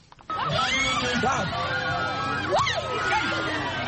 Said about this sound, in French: Ces cris sont des manifestations de joie devant la bravo d'un jeune homme qui a reçu sans broncher les coups de fouet, signe de son passage à l'âge adulte.